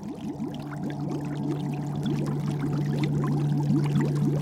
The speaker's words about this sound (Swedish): När en propeller snurrar bildas bubblor och de ger ljud ifrån sig.